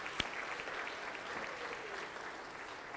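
Steady applause from an audience, many hands clapping together in a dense, continuous patter for about three seconds, at moderate loudness with no one speaking.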